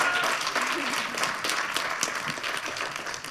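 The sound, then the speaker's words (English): Steady audience applause for all the performers at a panel event, a dense, fairly loud wash of many hands clapping at once that holds through the whole stretch, with faint crowd murmur beneath. “And while every single one of them got a nice applause from you, and thank you for this, because I really like that, we'll give you a big applause now for everybody.”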